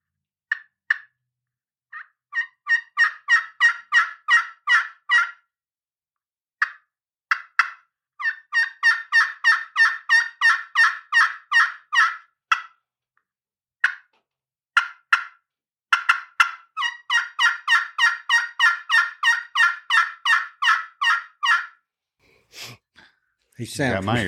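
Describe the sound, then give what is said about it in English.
Rapid runs of sharp, high-pitched turkey clucks and yelps from an aluminum friction call played with a striker, in quick bursts separated by short pauses, with no talking over them. “But even on the clucks on that front end, you can hear that higher pitch on the clucks on that aluminum.”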